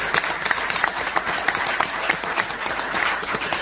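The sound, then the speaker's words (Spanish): An audience at Liceo Número 8 applauds everyone steadily at the end of a Friday morning discussion, many hands clapping in a dense, even wash of sound that stays fairly loud throughout with no voices standing out. “Aplausos para todos, entonces.”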